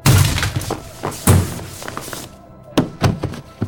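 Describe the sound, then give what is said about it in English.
A door is smashed in, with a person used as a battering ram, in a series of heavy, booming thuds and cracking impacts, followed by splintering and clattering debris as a few smaller knocks settle. “Apparently being used as a battering ram twice in one day is too much.”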